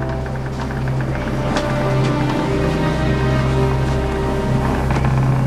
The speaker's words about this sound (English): The speedboat cuts across the water.